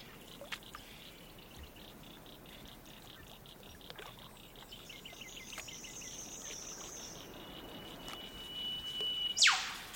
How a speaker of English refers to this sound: It's a spacious recording. You first hear the scale when a bird flies through and its call is echoed by large structures in the environment. A ring of hills, I think, and a lake, definitely.